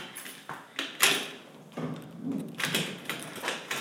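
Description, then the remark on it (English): A few sharp metallic clicks from a door lock, followed by a longer scraping, rustling sweep as the door is pulled open, with no voices. “As soon as I can find the lock for this door.”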